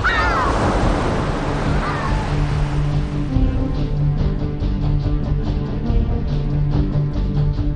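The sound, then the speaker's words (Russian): Loud, continuous surf of stormy sea waves crashing furiously against the sides of a small ship at sea, with a few wailing bird-like cries early on and a low droning tone running underneath throughout. “Волны с огромной яростью бились об борта.”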